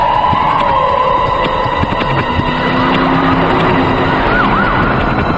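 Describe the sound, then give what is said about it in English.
Sirens of numerous police vehicles with flashing blue lights in Chicago wail and warble over a loud, constant roar of traffic as they race through it, dodging cars, the rising and falling tones cutting through the rush of engines. “Flashing their blue lights, numerous police vehicles dodge cars as they race through traffic.”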